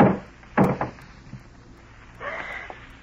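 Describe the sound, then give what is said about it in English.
A garage door is hauled open: a couple of heavy wooden clunks and rattles, then a brief rolling, scraping rumble as it slides up. No voices. “A moment later, you slip quietly out the back door, hurry to the garage, and lift the door.”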